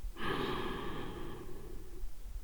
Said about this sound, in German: Nun lehnen Sie sich erstmal zurück. Gut, und atmen durch.